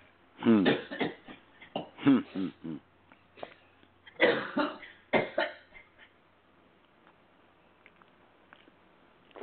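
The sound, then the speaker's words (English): A run of harsh coughs and throaty clearing sounds comes in irregular bursts over several seconds, then trails off into quiet background noise. “How do the professionals do it? Keep themselves from sneezing and coughing and...”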